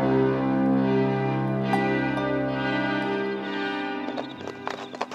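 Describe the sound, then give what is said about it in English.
Horse hooves clip-clop on a road leading away from Jerusalem by moonlight, beneath a steady, droning musical backdrop, the hoofbeats growing more distinct and closely spaced near the end. “Let's give the horses a break.”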